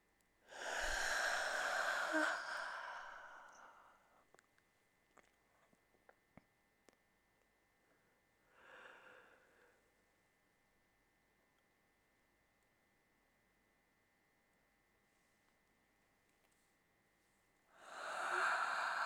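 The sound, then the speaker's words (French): A person yawns deliberately, a long breathy yawn with a voiced groan, then a shorter soft breath, and another yawn begins at the end. Faint ticks in the quiet between. “Je bâille en conscience.”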